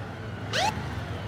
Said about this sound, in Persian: از دور یک موتور پلیس نزدیک میشه.